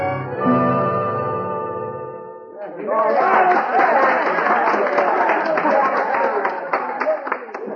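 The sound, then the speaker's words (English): A sustained musical chord fades out, then a crowd at a medicine show on a vacant corner across from O'Hara's livery stable breaks into loud, steady applause that fills the rest of the scene, dense clapping with a few sharper claps standing out. “what's that crowd down the street? It's a medicine show, Hoppy.”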